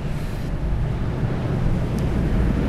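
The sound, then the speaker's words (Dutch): A boat engine throbs loudly, its low rumble building slightly as it throttles up, on the water on the way to the centre of Rotterdam, Netherlands, with wind buffeting in the background and no voices. “Oeps, hij geeft gas.”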